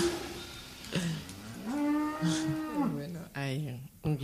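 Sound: cow mooing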